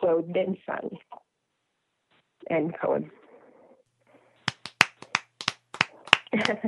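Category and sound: crowd, hands clapping in applause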